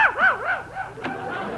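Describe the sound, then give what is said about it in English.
Mel Blanc imitates a dog barking, a quick run of wavering, whiny yelps rising and falling in pitch, fairly loud, then a short sharp yip at the end. “Stupid dog.”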